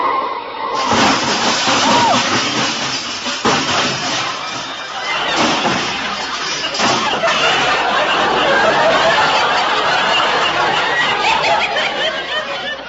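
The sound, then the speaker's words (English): A big black touring car skids and crashes, its fenders knocked off into the gutter, in a long, loud burst of screeching and clattering noise that stays harsh and dense for over ten seconds, with no clear voices. “Walter, look out! That car!”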